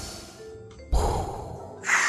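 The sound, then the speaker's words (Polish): A voice mimics mechanical respirator breathing: a quiet rasp, then a loud, hissing breath, ending in a sharper airy hiss, with no words spoken. “A kojarzysz kolesia, który potem nie mógł oddychać i miał taki system, który robił za niego”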